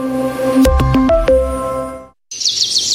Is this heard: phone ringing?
no